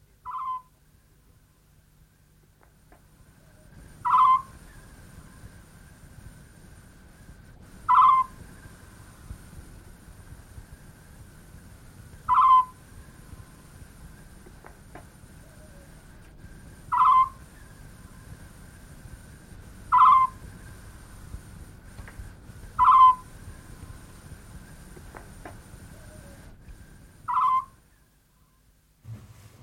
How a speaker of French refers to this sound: Dans ce concert, les oiseaux de nuit tentent vainement de se faire entendre.